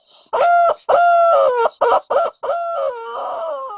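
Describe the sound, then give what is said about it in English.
A rooster crows loudly, a series of choppy, strident bursts that stretch into a long, wavering final note, with no voices. “Tell it to the chicken.”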